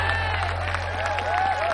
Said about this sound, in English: Everybody stands and claps.